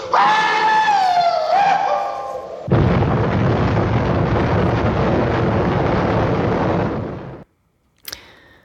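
An atomic bomb explosion in Japan: a wavering tonal whine gives way to a loud, sustained roaring blast lasting several seconds before cutting off, followed after a pause by a short, high ping.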